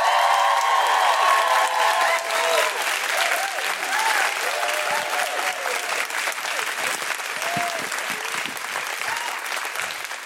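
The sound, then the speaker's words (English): A Guilty Feminist live show audience bursts into sustained, loud applause to welcome an act on stage, dense clapping filling the whole stretch, with high whooping and woohooing cheers rising over it early on before the clapping gradually tapers slightly. “Please put your hands together and make incredible Guilty Feminist woohooing noises”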